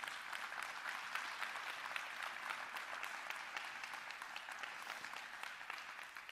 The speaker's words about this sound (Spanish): pero muchas gracias por todo el servicio que dan a nuestro Señor, pero también toda la instrucción, ¿no?, que le dan a los alumnos. Hemos estado, sí, un fuerte aplauso le podemos dar, ¿por qué no?